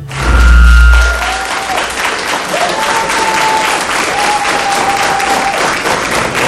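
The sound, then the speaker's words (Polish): Sustained applause from a concert audience in the Agnieszka Osiecka studio of RDC (Radio dla Ciebie), Myśliwiecka 357, Warsaw: a dense, steady wash of clapping throughout, with a loud low thump at the start and a few faint whistle-like tones drifting above the claps. “Cieszę się, bo te brawa są także dla słuchaczy RDC Radia dla Ciebie.”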